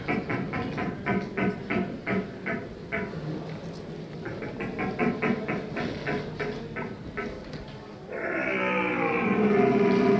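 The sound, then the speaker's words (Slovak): Rhythmic patter runs for about eight seconds, then a loud, sustained, deep roaring bellow cuts in: an experienced hunter at a calling competition imitating a rutting red deer stag that rules a herd of hinds, holding steady to the end. “Divákom predviedol charakteristický hlas jelenia, ktorý ovládol čriedu jeleníc.”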